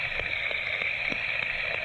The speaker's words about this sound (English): And everybody said, amen. Let's give the Lord a hand clap of thanksgiving.